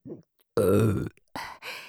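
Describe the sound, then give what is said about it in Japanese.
A long, loud, full-force burp with a rumbling, drawn-out tone, preceded by a faint short grunt and followed by two shorter, breathy burps in quick succession. “最初から全力でゲップするだけです。”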